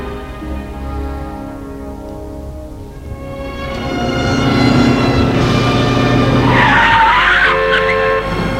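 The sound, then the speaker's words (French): A taxi's engine revs up steadily as it pulls away toward the train station, then the tires let out a sharp, high squeal near the end. The sound is loud, with no talking. “Et il l'accompagne en taxi jusqu'à la gare.”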